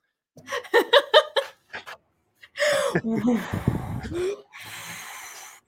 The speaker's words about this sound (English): Practice breathing exercises in. And out.